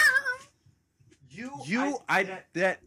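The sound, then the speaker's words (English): A cat yowls loudly in several strained, wavering cries as a woman outside throws it at a man: one short wail, a pause, then a drawn-out rising howl followed by two sharp bursts. “She's throwing a cat.”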